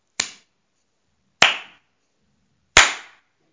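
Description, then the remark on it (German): Three loud, sharp hand claps ring out alone, evenly spaced about a second and a half apart, each snapping crisply and fading quickly. “Da ging der Pirat an den Strand und klatschte dreimal in die Hände.”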